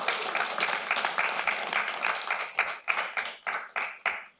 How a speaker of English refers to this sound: Okay. That might go to our heads. Yeah. Not too much applause.